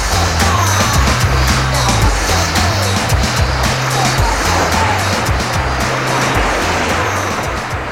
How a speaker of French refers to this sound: Les invités s'en retournent à leur bateau et les bateaux s'éloignent.